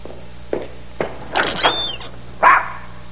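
A dog barks in a short uneven series, a few quick soft yips building to louder barks with a brief whine between them, with no one talking.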